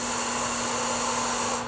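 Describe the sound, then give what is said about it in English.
A steady, loud hiss of a one-second shot of breathable canned air, not pure oxygen, spraying from a can fitted with a mask for nose and mouth, at pressure comparable to a can of shaving cream, with a faint low hum beneath, holding constant before cutting off abruptly. “It comes with a little mask to put over your nose and mouth and contains about 160 one-second shots of air.”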